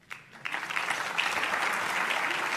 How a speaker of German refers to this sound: Einen großen Applaus.